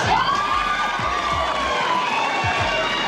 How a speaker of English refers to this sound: These women would scream for anything. Just say toenail. Toenail. See?